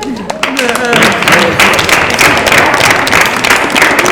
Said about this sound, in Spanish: Un aplauso para él.